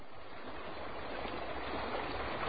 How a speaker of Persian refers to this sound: تو این دنیای بزرگ عزیزای من رودخونه پر آبی بود، رودخونه پر آب. صداشو بشنویم.